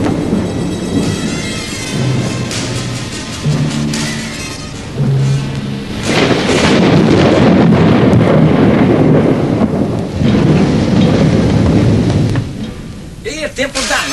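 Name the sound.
heavy rain with thunder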